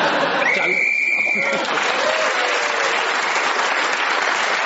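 A single sustained whistle blast, blown to end a round, rings out for about a second, clear and bright over a crowd's steady applause, which keeps going after the whistle stops.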